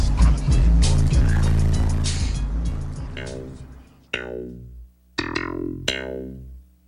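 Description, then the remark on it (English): Loud, booming bass-heavy music thumps out from a car stereo playing the same bass line from a popular local album, dense and rumbling at first, then breaking into a few punchy, resonant bass hits that ring and fade. “it seemed like every car that would go by, you know, bumping their stereo systems, it was the same bass line.”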